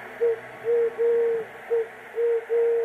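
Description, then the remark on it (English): Doves coo in a run of soft, low, hollow notes, about six in quick succession with brief pauses, against a faint background hiss and no voices. “They pictured cozy pairs of doves as the epitome of love and devotion.”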